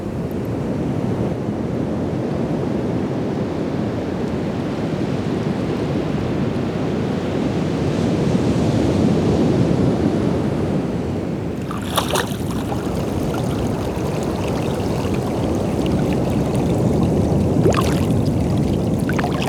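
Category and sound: nature, ocean waves and wind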